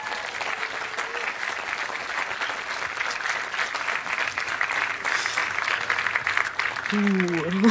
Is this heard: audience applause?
yes